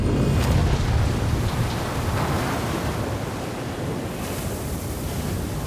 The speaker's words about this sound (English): The Sudo Havid rolls onto her side, and with a huge bang, the catches on the external doors break under the pressure, letting in a crushing flood of water.